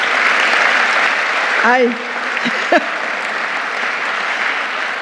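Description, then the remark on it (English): A crowd applauds steadily for several seconds, a dense wash of clapping, while a few short voiced shouts and whoops rise briefly partway through, cheering on women trained as rural community organizers in Haiti. “I will tell them that you are cheering them on.”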